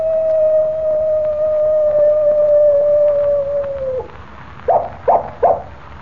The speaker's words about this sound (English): Did you hear that? I certainly did, Jimmy. It was a coyote. And here it comes now. Well, I'll be... Why, it's a real coyote.